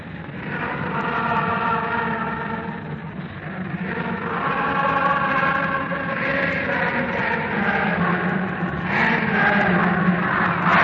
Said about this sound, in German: Wir übertrugen den Jubel der Reichshauptstadt über die Rückkehr des Führers aus dem westlichen Kampfgebiet. Wir beenden die Übertragung unter dem nicht enden wollenden Jubel auf dem Wilhelmplatz und halten in das Funkhaus zurück.